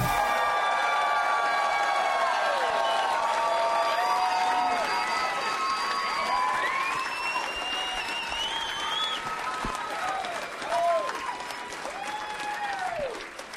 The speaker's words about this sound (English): Hey, everybody. You guys were clapping so loud that nobody could even hear the theme song. That was pretty sweet